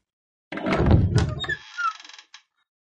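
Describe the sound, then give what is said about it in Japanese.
A heavy mechanical hidden door, opened by pressing a blue button on a distribution panel, heaves open with a deep, rumbling thud, then a brief hissing, sliding grind and a small click as it settles. It leads to a hidden passage to a laboratory. Fairly loud, with no voices. “はい、これが隠し扉を開くためのスイッチになっています。”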